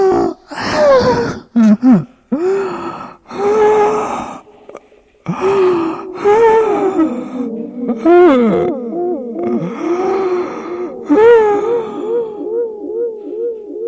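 Loud, anguished human screaming and wailing at night, with voices rising and wavering in pitch through drawn-out cries, broken by sharp gasps and brief pauses, continuous for the whole stretch.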